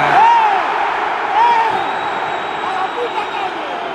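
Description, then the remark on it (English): A football stadium crowd in San Sebastian roars during Real Sociedad versus Manchester United, 88 minutes into the match, just after Diogo Dalot has been booked. It is a dense, steady wash of noise for the whole stretch, with a couple of short, rising whistle-like shrieks cutting through near the start. “As you can hear, it's pretty lively.”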